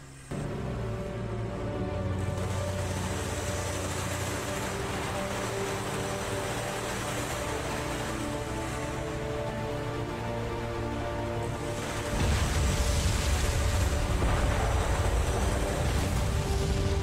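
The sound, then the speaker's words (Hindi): A boat motors steadily along a waterway against the current, its low engine drone mixed with a continuous rush and splash of water. The wash grows louder and rougher toward the end, with no voices. “दरअसल हम आबी गुजरगाह पर आए हैं पानी की मुखालिफ से, ताकि वो हमें ना देखें।”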